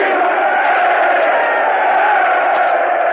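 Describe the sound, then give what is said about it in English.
A large crowd of Merchant Marine seamen cheering together in a sustained, loud roar of voices that holds steady for a few seconds without any clear words. “And here's a cheer from the men of the Merchant Marine.”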